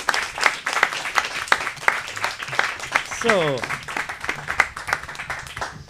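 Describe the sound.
A crowd applauds steadily, dense clapping filling the room with a few voices and a whoop rising over it near the middle, then continuing at an even level.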